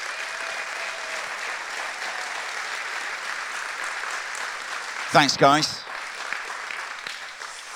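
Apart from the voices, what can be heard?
audience applause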